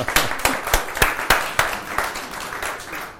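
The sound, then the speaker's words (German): A crowd applauds for Jesus, a dense wash of clapping with several sharp, evenly spaced louder claps standing out early, then easing slightly toward the end. No one speaks. “Gib mir an Jesus einen Applaus.”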